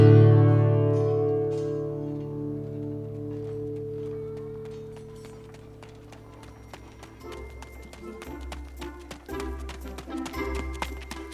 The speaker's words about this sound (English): We hear a cluster of footsteps as a group of guards are chasing down an alleyway after you, Aladdin.